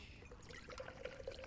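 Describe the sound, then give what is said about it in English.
Water pours steadily into a container for a moment, a continuous splashing trickle with a faint gurgle, fairly soft, with no talking. “And I'm going to pour it in my container.”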